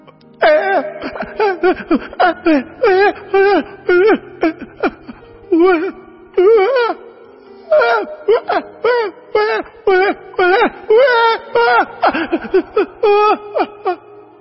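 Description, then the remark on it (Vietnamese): A baby cries and wails continuously in loud bursts, each sob rising and breaking with a quavering, strained pitch and brief gasping pauses between them. “Đứa bé bơ vơ giữa rừng già, nó khóc thét lên một cách thảm thiết vì đói, vì khát.”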